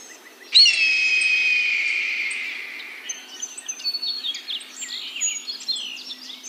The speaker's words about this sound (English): And there's something really transporting about listening to the sounds of the birds, communicating with each other, and hearing this whole other way of life.